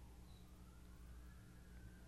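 An emergency siren wails faintly, its tone slowly rising, over a steady low rumble of background noise; no one speaks.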